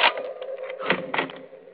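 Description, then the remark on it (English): A bedroom door is unlocked with a short run of metallic rattling and sharp clicks, a louder clack near the start and two more toward the end, with no voices. “Just a minute, I'll unlock the door.”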